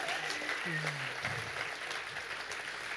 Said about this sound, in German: Geben wir ihm doch einen herzlichen Applaus.